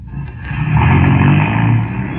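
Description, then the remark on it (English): A car engine rumbles as the vehicle drives past, its low steady drone swelling louder in the middle and easing off toward the end, with no voices. “That car. It sounded like...”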